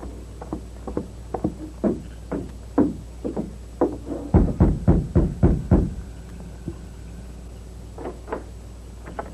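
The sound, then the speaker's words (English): Knocking on the wooden door of a ranch house at night: a long series of sharp raps, scattered at first, then a loud rapid burst of about eight knocks, followed by a few faint taps. “I'll rap on the door.”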